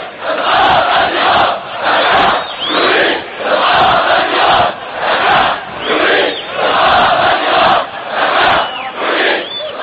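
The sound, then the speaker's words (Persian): A large crowd of Bashar al-Assad's opponents at a funeral on Saturday chants 'We want the regime to fall' in unison. The chant is loud and rhythmic, and the shouted phrase repeats roughly every second and a half with short dips between each repetition. “مخالفین بشار اسد در حین مراسم تدفین روز شنبه فریاد می زدند ما می خواهیم رژیم سقوط کند.”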